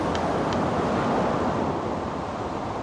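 Steady roar of ocean surf mixed with blustery wind, a dense continuous wash of noise with no pauses, no voices, and a couple of faint brief clicks early on.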